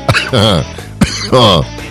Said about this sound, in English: I made myself cough.